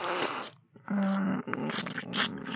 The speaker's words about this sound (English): I know there's no way they can't not hear me. What will they think? Hearing all this sucking.